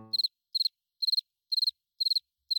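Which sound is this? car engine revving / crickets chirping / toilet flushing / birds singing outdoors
crickets chirping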